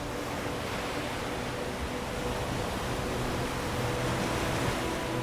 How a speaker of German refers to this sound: Das beruhigende Geräusch der Wellen erfüllt die Luft.